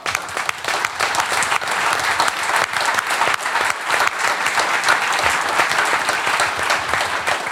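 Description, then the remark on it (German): Sustained applause from a large audience at a panel discussion fills the whole stretch, a dense, even patter of many hands clapping at steady loudness with no one speaking. “Das ist, glaube ich, auch ein Applaus wert, ja.”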